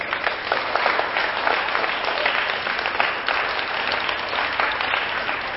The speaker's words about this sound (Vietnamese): Nếu các con thấy việc đó là làm được và xứng đáng làm đó thì hãy cho một tràng vỗ tay thật lớn nào.